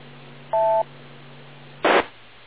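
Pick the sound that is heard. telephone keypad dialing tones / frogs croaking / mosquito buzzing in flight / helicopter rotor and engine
telephone keypad dialing tones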